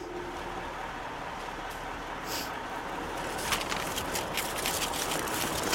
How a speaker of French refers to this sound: Je suis sur le parking de la gare routière de Liepāja, devant l'arrêt numéro 1. C'est de là que part le bus de 19h45 pour Riga. Il est 19h40, nuit noire, la gare soviétique est dans mon dos